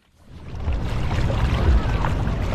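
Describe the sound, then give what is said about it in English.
A steady, rumbling drone of boat engines mixed with churning water fades in and holds as speedboats, kayaks and other watercraft move along the busy Nam Song River in Vang Vieng in the late afternoon. No one speaks. “It's late afternoon and the Nam Song River in Vang Vieng is bustling with watercraft of every description.”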